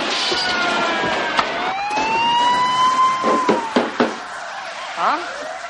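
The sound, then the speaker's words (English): Wailing police sirens rise and fall in overlapping sweeps amid a busy, noisy street scene, with sharp thuds and engine rumble, during a car chase and shootout outside a house. “And he bangs on the TV because you still hear the sirens.”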